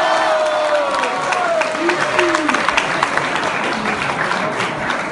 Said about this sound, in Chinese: 表演者张鹤伦，老鹤爷，掌声有请。